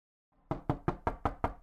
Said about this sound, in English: Well, it looks like Leslie has arrived at 199 Dynamic Drive, where she will meet the Bennettines. Just knock. Don't be scared.